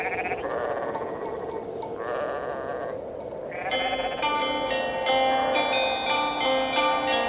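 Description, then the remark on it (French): Several sheep bleat in long, wavering overlapping calls, with a steady background of flock noise and a busier stretch of sharper, clinking sounds toward the end. “Des bergers avec leurs moutons, des artisans, des gitanes, un pêcheur, des enfants, des animaux.”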